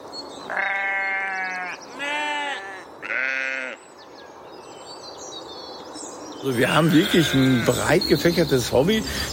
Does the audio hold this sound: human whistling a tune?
no